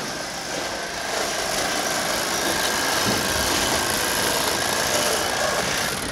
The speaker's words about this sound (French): Et oulala, alors là, ça, c'est une scie. C'est mieux ? Ah bah oui, parce qu'on a moins mal au rein.